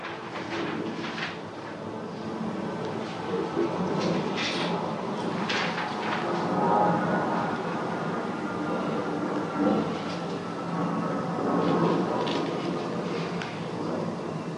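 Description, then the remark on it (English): A continuous rumble from inside a moving train, steady and moderately loud, with occasional clacks and rattles rising briefly above the drone and no voices. “I read this again on the train now.”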